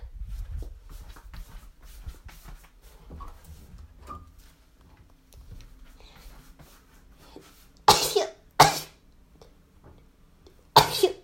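A child sneezes three times, loud: two sharp sneezes in quick succession, then a third after a short pause, following several seconds of quiet shuffling and faint background noise.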